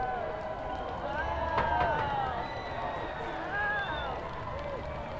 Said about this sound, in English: you can occasionally hear cheers as the sun emerges